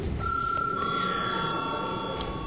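A parliamentary voting bell rings steadily and continuously for a few seconds before a vote on a bill, a sustained bright metallic tone over a low murmur of background noise, with no one speaking.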